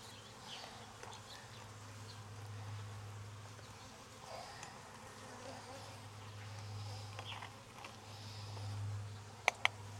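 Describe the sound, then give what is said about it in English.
A steady drone of honeybees buzzing fills the whole stretch, a continuous low hum with slight swells, ending with two quick sharp clicks. “So that little piece will come off, and let's just take a worker bee.”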